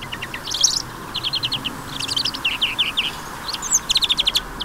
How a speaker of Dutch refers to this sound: De groenling.